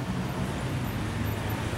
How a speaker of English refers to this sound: Listen and point. Red car.